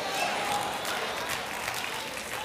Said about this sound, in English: I know I didn't get much hand clap on that.